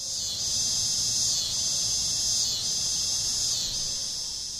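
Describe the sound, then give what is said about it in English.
A loud, continuous high-pitched buzzing drone of cicadas singing in trees in summer, pulsing in slow surges about once a second, with a soft low rumble underneath and no voices. “Let's get back to cicadas singing their love song in trees and appreciate how that enriches our summer.”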